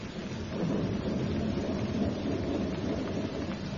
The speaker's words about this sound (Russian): Весь день лил такой дождь, что ни на ком сухой нитки не было.